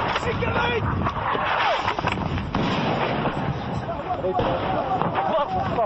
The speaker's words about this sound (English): Three explosions, 50 yards away. So, as we were doing the interviews, incoming round just landed in this area. Some of the rebels are now starting to flee.